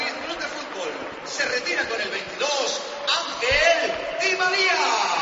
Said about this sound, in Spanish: Y se va Di María. Di María por Gessé. ¿Ves? Aplauden más a Morata. Es que es inevitable querer más al de la cantera.